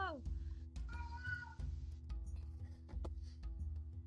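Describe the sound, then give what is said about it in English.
A cat meows a couple of times, with drawn-out, rising and falling cries, over a steady low hum of background game sound. “You can hear my cat.”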